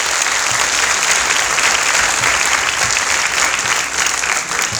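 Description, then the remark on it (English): A crowd at Academy School claps steadily for about five seconds as a class of students is named at a ceremony, a dense, sustained wash of applause that stays loud throughout and tapers only slightly at the end. “Un applaudissement, s'il vous plaît.”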